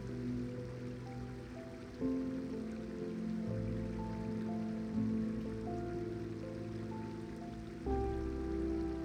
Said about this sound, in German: Du hörst das beruhigende Geräusch des Wassers. Es fließt über Steine und durch kleine Vertiefungen. Ein stetes Plätschern und Murmeln, das dich tief entspannt.